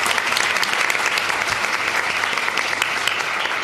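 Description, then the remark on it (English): Steady, full applause from a sizable audience, dense overlapping claps sustained at an even level throughout with no voices standing out. “So let's give her a quick round of applause for making this happen.”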